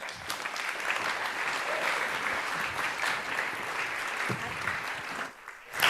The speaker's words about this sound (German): Bitte begrüßt mit einem großen Applaus unsere wunderbare